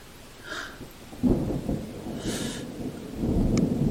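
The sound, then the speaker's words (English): A thunderstorm with deep, rolling thunder that swells after a quiet start and keeps rumbling, with a steady hiss of rain and a couple of soft breathy gusts on top. “Maybe with the sound of the storm, nobody will hear me scream when I come.”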